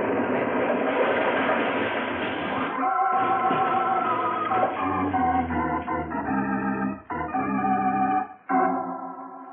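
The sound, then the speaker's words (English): A train roars loud with dense metallic grinding and screeching as it crosses a trestle, then breaks into jolting crashes and sudden drop-outs as it is blown up with a detonator and wrecks, with no voices. “It's on the trestle now. Almost halfway across.”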